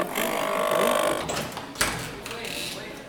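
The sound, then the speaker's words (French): A printer being repaired at a Repair Café whirs and hums steadily for about a second, its motor tone clear, then fades into a busier background with a brief clatter and indistinct voices. “J'essaye de faire réparer mon imprimante.”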